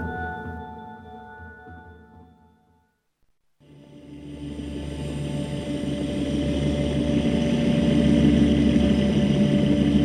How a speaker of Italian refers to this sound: Riaccendo le turbine e seguito ad accelerare mentre mi avvicino alla valle.